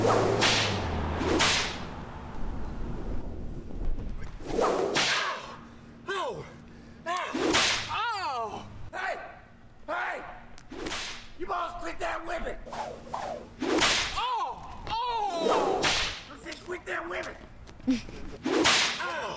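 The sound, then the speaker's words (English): Sharp whip cracks snap out repeatedly at irregular intervals in a comedy skit video called Whips, loud, amid shouting and excited voices with a low hum running underneath. “This is Whips.”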